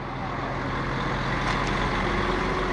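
A steady, deep diesel rumble of a lane of about 150 idling 30-ton Ivorian cargo trucks outside the Cargill plant, amid the smell of fermenting cocoa, a continuous drone with no breaks and no voices, a faint brief hiss rising partway through.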